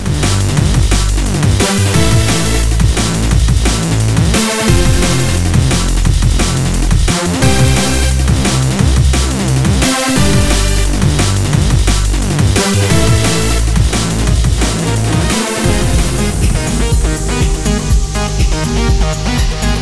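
A loud, dense music track plays continuously with a driving, steady beat and repeating sections every few seconds; no one speaks over it.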